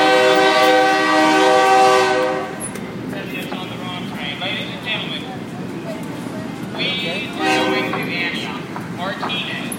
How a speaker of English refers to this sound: That is not my train. My train will be the next one. But that was pretty cool, don't you think? Our train will be next.